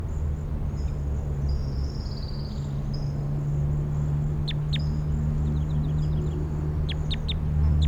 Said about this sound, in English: Recording 5-7. Song Sparrow right behind 5-7.